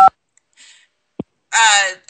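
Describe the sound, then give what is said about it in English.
A single short, bright phone keypad beep sounds right at the start, followed by a soft click and a brief burst of voice-like sound near the end. “Alan, are you using your phone or something? Because we can hear the beeps.”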